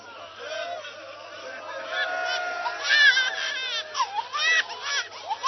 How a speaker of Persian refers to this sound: این بچه شیر خورده، معلومه از گریهش پیدا شیر خورده، میتونه گریه کنه